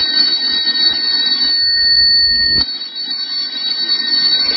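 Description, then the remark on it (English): A telephone rings with a loud, shrill, continuous electric bell that rattles on for several seconds, briefly shifting in tone partway through before ringing on, in the July 24, 1947 radio broadcast of The Crime Club. No one speaks. “And would somebody answer the phone?”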